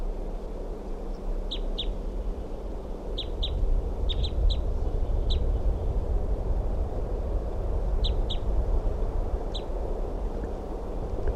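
bird calling

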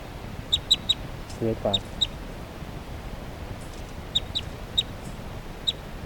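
bird calling

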